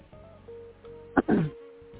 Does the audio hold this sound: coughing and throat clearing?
yes